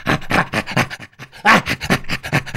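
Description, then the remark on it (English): Rapid, breathy chimpanzee play panting, a run of rhythmic huffing pants signalling play rather than fighting, with a brief pause partway through before the panting resumes just as strongly. “Yeah, so basically, panting became ha-ha.”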